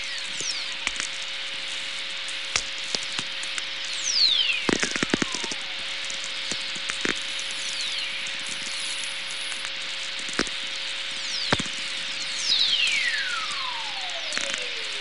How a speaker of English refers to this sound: We can hear some recordings of whistlers caused by lightning now from Stephen McGreevy.